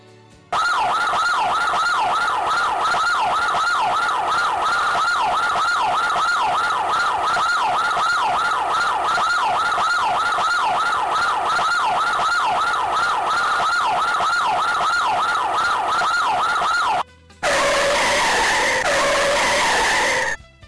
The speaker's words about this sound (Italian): Mezz'ora dopo si sentirono tante sirene.